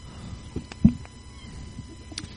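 cat meowing

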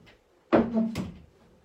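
door being closed

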